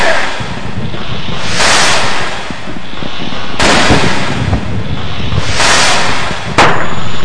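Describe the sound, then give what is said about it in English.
Several loud, sharp blasts from illegal M80 firecrackers, lit with a match under three watermelons, go off one after another over steady outdoor rumble, each bang blowing the watermelons to pieces and followed by a brief scattering crackle. “lit a match under three watermelons, which were blown to pieces by an illegal firework called an M80.”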